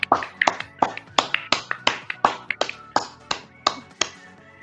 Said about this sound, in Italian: Quindi ragazzi, applauso, applauso.